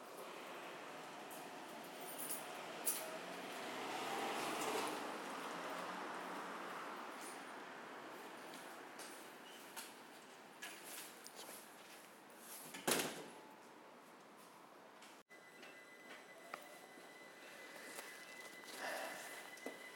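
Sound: train leaving the station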